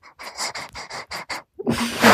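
A dog named Ali pants in quick, even breaths, about seven rapid huffs in a row, then a louder, rougher burst of breathy noise at the end. No one speaks.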